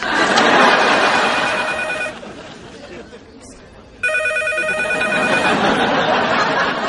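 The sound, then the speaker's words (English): A telephone rings loudly in two bursts, with a brief quieter gap between them, over background chatter and murmuring voices; it is Chandler Bing's own phone, which he answers himself. “Hey, how come you're answering your own phone?”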